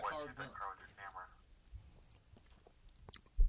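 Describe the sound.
Someone chewing grapes, with a muffled voice talking at first, then soft, irregular wet squishes and clicks of mastication, ending in a sharper thump.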